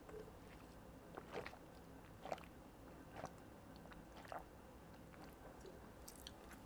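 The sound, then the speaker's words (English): Someone sips water, with a handful of soft, wet mouth clicks and gulps spaced about a second apart over a quiet background. No one speaks. “I'm gonna take a little sip of water.”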